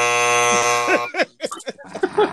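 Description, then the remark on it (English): A loud, harsh game show buzzer blares steadily for about a second, then cuts off as people start talking over the silence it leaves. “Wow, he had a nigga with the buzzer.”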